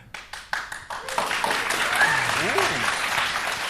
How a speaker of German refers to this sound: Ihr habt jetzt nur aus Mitleid geklatscht, oder?